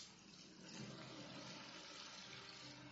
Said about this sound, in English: Look at this canyon. It reminds me of the Grand Canyon. You've got this little stream. You've got these steep canyon walls. How long do you suppose it would take for a stream this small to remove this much material and cut the canyon this deep?